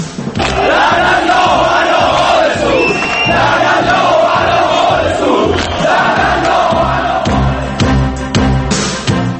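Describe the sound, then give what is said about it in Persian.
A huge stadium crowd at the Esteghlal versus Al-Nassr match shouts political chants in unison. It is loud and continuous, with rising and falling massed voices and occasional sharper yells throughout. “تازه واردان به جایگاه ها در ورزشگاه ها، همون هایی که چند هفته ایست تازه ورزش دوست شدند، سیاسی از آب در آمدند و در بازی استقلال النصر فریاد می زدند.”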